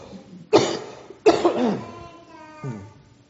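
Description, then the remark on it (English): Two sharp coughs from a person with a scratchy throat, about a second apart, the second trailing into a rougher, raspy throat sound, followed by a softer brief throat noise near the end. “I've got a scratch in my throat. I'm sorry. I'm having to keep coughing.”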